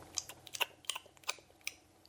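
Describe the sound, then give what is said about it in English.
Quiet chewing of llamas working slowly on their cud during the night: soft moist crunches and clicks repeat at an uneven, unhurried pace, with nothing else audible. “Not a sound could be heard but their chewing.”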